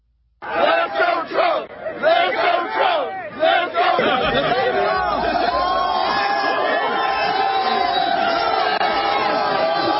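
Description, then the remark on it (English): A large crowd of Pittsburgh Steelers football fans outside the stadium after the game shouts in rhythmic, chant-like bursts for a few seconds, then settles into a loud, continuous roar of cheering and chatter while fans crowd surf. “After the game, he's outside the stadium and he's crowd surfing with the Steelers fans.”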